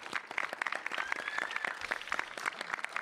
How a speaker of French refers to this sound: Eh bien merci Romain, merci Mathilde, vous pouvez les applaudir s'il vous plaît.